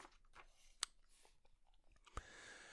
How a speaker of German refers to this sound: Warte, ich muss blättern.